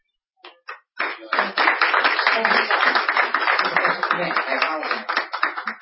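A couple of isolated claps, then a crowd breaks into steady, dense applause that carries on at an even level with a rapid, crackling texture.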